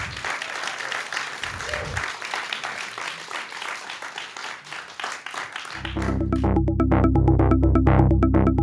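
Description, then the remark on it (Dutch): A crowd applauds steadily, a dense wash of clapping, until music with a strong bass beat swells in and plays loudly over the fading applause. “Applaus”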